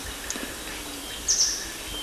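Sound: bird chirps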